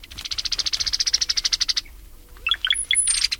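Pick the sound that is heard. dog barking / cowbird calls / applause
cowbird calls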